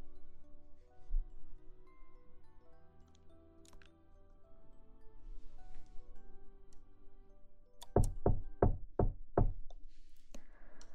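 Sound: knocking on a door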